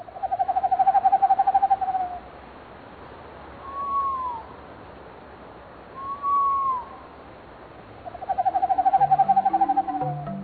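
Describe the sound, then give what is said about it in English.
An owl calls on its own: a long, low, rapidly pulsed trill, then two short falling hoots, then the pulsing trill again. The calls are moderately loud and there is no talking. “Is what we're doing right now is we're trapping and banding long-eared owls and solid owls, part of our winter project.”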